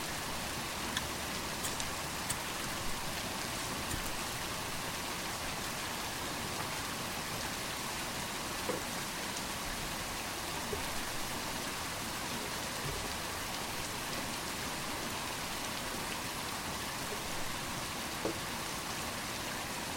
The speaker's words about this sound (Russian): Вот это дождь. Настоящий звук, звук дождя.